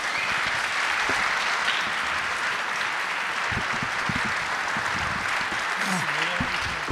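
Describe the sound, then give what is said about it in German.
Thunderous audience applause, called for by the host to welcome two guests, fills the whole stretch, a dense, steady roar of many clapping hands, with a few voices faintly audible underneath toward the end. “Bitte einen donnernden Applaus”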